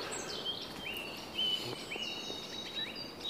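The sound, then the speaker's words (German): Faint, high chirps and short whistled calls from a few birds, scattered through a soft outdoor background with no one talking. “Ich habe so das Dumpfgefühl, hier wird es mehr gezwitscher.”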